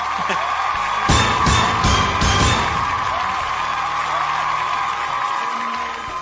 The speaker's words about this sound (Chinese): 这个我觉得我们应该鼓励一下的，来来， 给 点掌， 给个掌声。